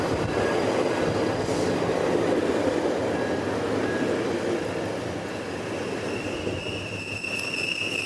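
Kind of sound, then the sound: vehicle, passing commuter train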